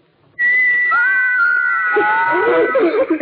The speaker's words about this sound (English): These little carved figures can whistle. I know that. Come on, we've got to go. Wait, you can't go yet. You haven't heard my little figures whistle. Listen.